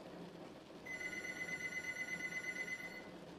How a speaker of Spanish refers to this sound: El sonido del teléfono de la sala me hizo pegar un brinco del asiento.